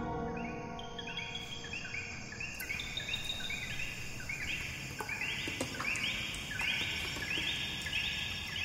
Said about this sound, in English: in the field recording, I think there are birds, but the way the birds sound, it reminds people of the coqui, which is a frog that's unique to Puerto Rico. So you can decide for yourself, are there coquis in there or are there not?